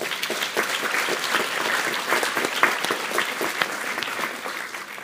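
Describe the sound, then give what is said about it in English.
An audience applauds steadily for about five seconds, a dense wash of many overlapping hand claps at an even level that begins to thin out near the end. “Let's give a big clap.”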